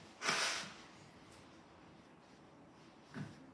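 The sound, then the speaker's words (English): A single forceful nose blow bursts out as a speaker pauses while reading Psalm 145, a breathy rush lasting under half a second, followed by quiet and then a shorter sniff near the end. “Sorry, I just need to blow my nose.”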